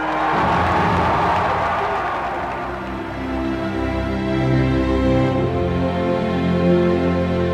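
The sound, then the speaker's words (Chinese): A large crowd of voters cheers Franklin Roosevelt for his efforts to help people during the Great Depression, a dense, loud wash of many voices with scattered shouts and whoops, dipping briefly midway before swelling again. “两年后，罗斯福当选连任，选民们被他在大萧条时期帮助民众的创造性努力而欢呼。”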